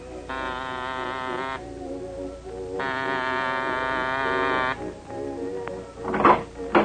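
A doorbell at the side door of a closed, boarded-up museum at a run-down amusement area buzzes twice in long, steady rings, then a clunk and a brief rattle follow as the door is opened. There is no talking.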